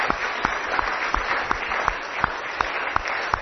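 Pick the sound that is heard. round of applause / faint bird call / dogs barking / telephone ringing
round of applause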